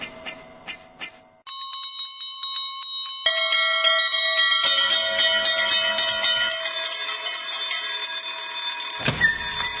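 An electric school bell rings loudly and continuously for several seconds as the last school bell, its metallic clanging tone steady and insistent before cutting off near the end, with no voices.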